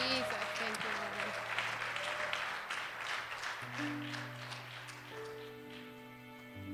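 A church audience claps steadily for several seconds after a woman's baptism with the Holy Ghost is announced, a dense patter of many hands that thins slightly toward the end, with sustained organ-like tones humming underneath.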